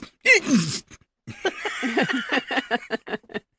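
A sudden sneeze bursts out, then after a brief pause a rapid string of raspy, hacking coughs sputters along, loud.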